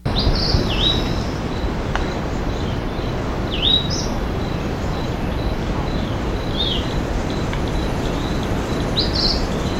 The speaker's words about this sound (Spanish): canto en el dosel, canto del amanecer, al fondo Cimmeris briflaus y una rana de suelo.